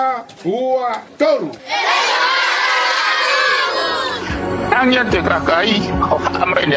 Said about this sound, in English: In this Facebook video, a candidate donates food to school children, to which they respond by screaming out his name.